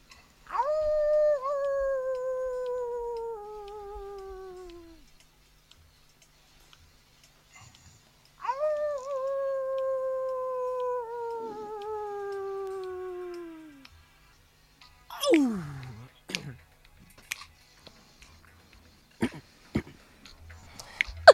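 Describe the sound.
A man imitates a wolf for a music record, giving two long, wavering howls that start high and slowly slide downward, with a pause between them, followed by a few short, sharp vocal bursts and clicks.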